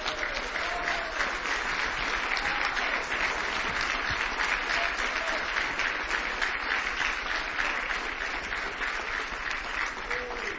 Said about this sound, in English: Let's stand together and give Him a good hand clap of praise. in the house of God.